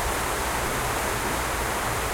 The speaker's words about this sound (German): Vielleicht hört ihr uns noch, also der Regen wird immer stärker.